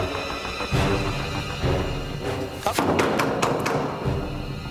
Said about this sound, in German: Eine richterliche Anordnung ist da. Die Ramme bereit fürs Türeöffnen.